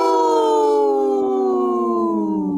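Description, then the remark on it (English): A single long wolf howl, loud, holding a steady mournful tone that slowly slides downward in pitch. No one speaks over it. “My wolf sounded hurt.”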